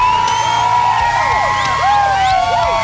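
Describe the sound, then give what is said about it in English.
A packed crowd of women at a bar in Fruita screams and cheers loudly all at once before a wet t-shirt competition, high shrieks and whoops rising and falling over a dense, continuous roar of voices, sustained throughout. “Hey, let me hear you scream.”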